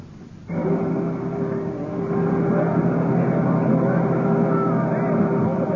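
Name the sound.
boat engine and water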